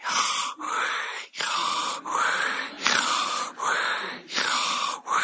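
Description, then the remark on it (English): Loud breathing in and out, done deliberately in quick, even strokes, about seven breaths in a row with brief gaps between them, slightly wheezy and airy, with no talking. “You can't live without breathing God's name. It's the breath of life.”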